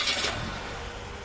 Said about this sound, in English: Okay. Just get ready. Maybe start the engine